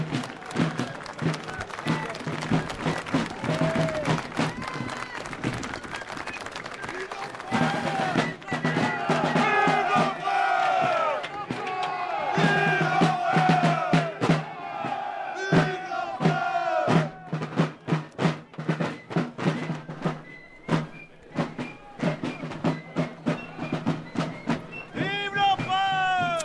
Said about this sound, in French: Enregistrement de la reconstitution de la bataille où l'on se mobilise quelques heures avant la bataille.